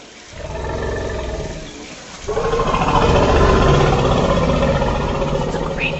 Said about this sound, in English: Any guesses? That is an elephant. It sounds from the Elephant Listening Projects.